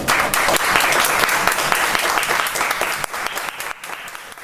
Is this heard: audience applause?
yes